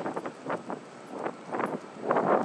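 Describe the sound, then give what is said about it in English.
Wind buffets an outdoor microphone on a rainy day in southwest London, in broad rumbling gusts, swelling and easing several times and growing strongest toward the end, with no voices over it. “So, you know, having trekked across southwest London and got slightly lost in Wandsworth and then returned in the wind and the rain, here I am on the final straight”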